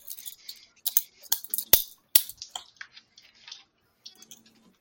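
washing dishes

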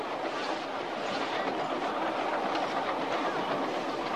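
train running on rails

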